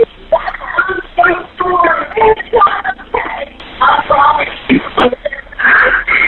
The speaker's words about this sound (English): Now, it's pretty hard to hear anything in that call, aside from a few whimpers.